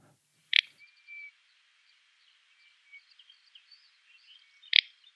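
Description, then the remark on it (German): Two dry, snapping calls of a little bustard, like a twig breaking, made as the bird hops up slightly, spaced about four seconds apart, with faint rustling and chirping in a quiet outdoor background between them. “Der Furz klingt nach Großtrappe, der brechende Zweig nach Zwergtrappe.”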